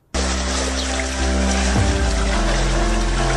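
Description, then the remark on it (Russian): Floodwater rushes and sloshes in a steady, continuous wash through a flooded private-housing district of Kramatorsk after a sluice breach, with a low droning hum running underneath. No voices are heard. “Район превратился практически в реку, так что животные действительно могли утонуть.”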